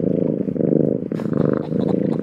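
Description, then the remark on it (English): A cat purrs steadily, a low rumbling, rhythmic vibration that pulses continuously with the breath, with no voices over it. “I mean, we all know that cats are happy when they purr and angry when they hiss.”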